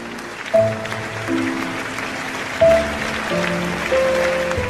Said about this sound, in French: Alors ce soir, je voudrais vous demander pour elle une chose simple, mais ô combien symbolique. C'est de vous lever et de l'applaudir avec moi.